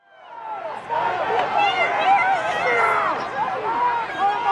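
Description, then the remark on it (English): A dense outdoor crowd of thousands at President Trump's rally at the Ellipse, around noon on Wednesday, January 6th, murmurs and chatters continuously, many overlapping voices blending into a loud, steady babble with no single speaker standing out. “Media will not show the magnitude of this crowd.”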